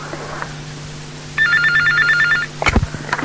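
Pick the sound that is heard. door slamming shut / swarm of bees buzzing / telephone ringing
telephone ringing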